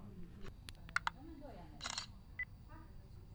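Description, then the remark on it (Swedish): A pair of sharp clicks followed by a brief, bright camera shutter snap, then a short electronic beep, with low murmuring voices in the background, as the button is pressed on a camera held about two to three decimetres above a text to photograph it. “Och så trycker jag på knappen för att fota.”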